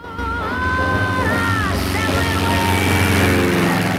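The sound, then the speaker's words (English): A small yellow propeller biplane's engine roars loudly and steadily as it takes off from a remote airstrip surrounded by rocky hills, its droning pitch wavering and climbing slightly, filling the whole stretch without pause. “A plane takes off.”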